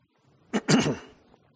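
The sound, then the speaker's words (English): A man clears his throat: a short, sharp burst followed by a longer, rougher rasp with a voiced rumble, then quiet. “And something I see here then in these first two verses is, excuse me, I'm going to try to clear my throat here.”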